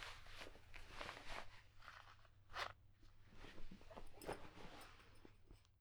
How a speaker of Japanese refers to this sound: 下を脱がせます。ズルズルっと。